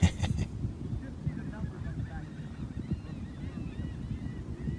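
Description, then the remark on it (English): A flock of seagulls squawks and cries repeatedly, going crazy, their overlapping calls carrying over a steady low rumble of wind and background noise, at a spot not very close to the water. “I think this might be a seagull breeding facility or something because they go fucking crazy.”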